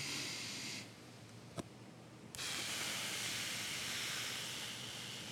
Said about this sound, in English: Now, in just a second, I want to have everybody take a deep breath in and hold it, and I want you to breathe out slowly. Ready? 1, 2, 3.